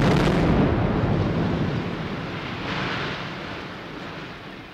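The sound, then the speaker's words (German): A loud, deep explosion bursts out at the start and rolls into a long rumbling roar of collapse and debris that slowly fades over several seconds, with no voices: the demolition blast of a roughly 86-year-old church's nave beside the Wall on Bernauer Straße, January 22, 1985. “Mit diesem Knall kam das Ende des Kirchenschiffes, einer Kirche, die vor rund 86 Jahren eingeweiht worden ist, hier unmittelbar an der Mauer, an der Bernauer Straße.”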